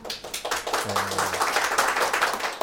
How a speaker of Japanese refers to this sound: 今日はお店には常連のお客さんがいっぱいいらしてまして、今拍手が起きました。